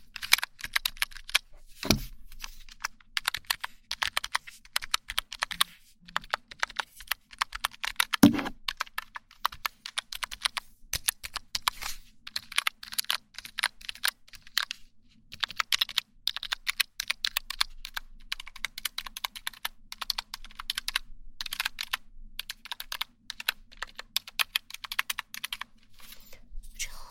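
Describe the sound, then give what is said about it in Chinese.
Rapid, uneven key clicks from a small wireless numbers-only keypad that takes batteries and lights up, tapped nearly continuously for the whole stretch, with a few louder thumps and no voices. “无线数字键盘，无线数字键盘，不知道怎么用，反正我也没用过。”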